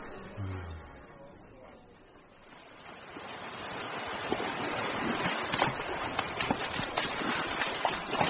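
Sea waves washing onto a shore, a soft start swelling after a few seconds into a steady, fairly loud rush of surf dotted with short sharp splashes.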